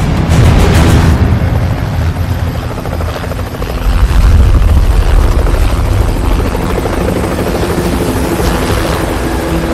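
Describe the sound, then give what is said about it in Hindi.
A helicopter roars loudly and steadily overhead, its rotor thumping in a fast rhythm with deep engine rumble throughout, continuous with no voices; helicopters have delivered snipers for an operation. “जनाब हेलीकॉप्टर्स ने स्नाइपर्स को पहुंचा दिया है।”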